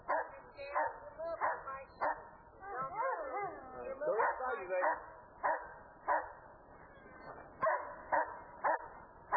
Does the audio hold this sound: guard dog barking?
yes